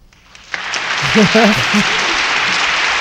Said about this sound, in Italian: A proposito di finestra, allora io farei un applauso agli applausi, perché abbiamo trovato gli applausi finalmente.